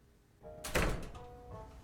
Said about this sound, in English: He closes the door.